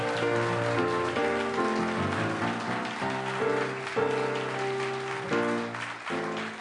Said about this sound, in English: And how do you say it again, everybody? Let's shout the name. Munising, Michigan, right? Round of applause for our town of the week.